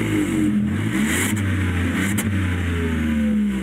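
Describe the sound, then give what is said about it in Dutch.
The 1-litre, 115 hp three-cylinder engine of a Volkswagen up! GTI hot hatch revs steadily, its low harmonic drone rising and falling slightly with brief throttle blips, loud and continuous with no talking. “De GTI, de up-GTI. De kleine hot hatch. 1 liter, 3 cilinder met 115 pk. Even reffen.”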